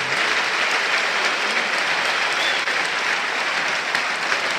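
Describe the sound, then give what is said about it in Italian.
Steady, dense applause from a large home crowd in a stadium during a match, for player Bernabé leaving the field in a substitution, loud and continuous, with a broad wash of clapping and no individual voices standing out. “E sentite gli applausi del pubblico di casa proprio per Bernabé.”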